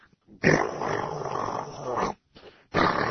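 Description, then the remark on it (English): A voice imitates a neighbour's generator six houses away, heard from inside a house with the doors shut during a power outage: a rough, droning rumble held loud for nearly two seconds, then breaking off briefly before the growling drone starts up again. “all you could hear is the who would see for miles and miles and miles was this guy's goddamn generator”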